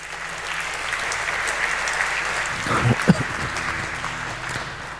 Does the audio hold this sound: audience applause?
yes